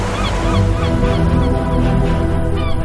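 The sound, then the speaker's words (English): A flock of seagulls calls over and over while flying above a beach in Gaza on October 7th, harsh overlapping loud cries above a steady low rumble of sea breeze or surf, with no one talking. “Seagulls flying over the beach.”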